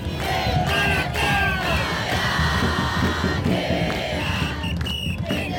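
A huge protest crowd of hundreds of thousands in central Buenos Aires chants and shouts in unison, 'Milei, look here, we will fight for our education system', against President Milei's austerity cuts to public universities. A loud, continuous roar of many voices with rhythmic pulses of yelling and a few higher-pitched shouts cutting through.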